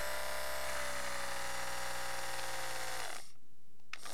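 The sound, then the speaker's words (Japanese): A phone-style vibration on its weak setting: a steady, low electric buzz with a droning hum that runs for about three seconds, then cuts off, followed by one faint brief blip. No voices. “最後は電話を使います。”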